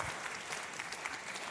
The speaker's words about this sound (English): Come on. You have to clap again because they're slow. Yeah, there you go.